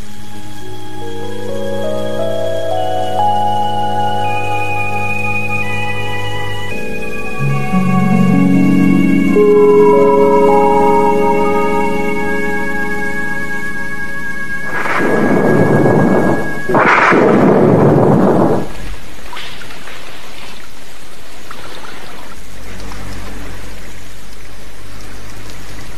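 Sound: heavy rain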